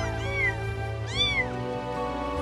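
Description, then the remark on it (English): Two high, rising-and-falling meows from kittens in a basket on a sofa, clear over a steady low background hum. “Also, there are some kittens and puppies in a basket on the warm sofa.”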